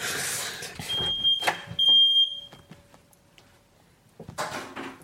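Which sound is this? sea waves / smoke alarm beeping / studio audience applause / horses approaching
smoke alarm beeping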